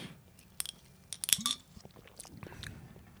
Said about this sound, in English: I'm going to just have a sip.